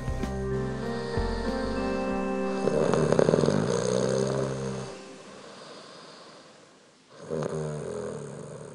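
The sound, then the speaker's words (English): Loud snoring: a long rumbling, nasal snore that swells and fades over several seconds, a brief quiet inhale, then another snore begins. No one speaks. “The funny thing is that you snore too, but I don't mind.”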